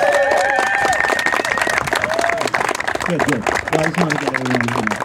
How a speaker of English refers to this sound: A round of applause for Mr. Marks.